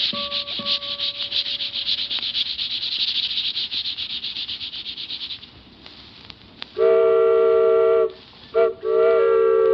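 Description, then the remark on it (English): A train heading south rolls along with a steady, hissing rush, then its whistle sounds loud in a long blast followed by a short toot and another sustained blow. “Train going south.”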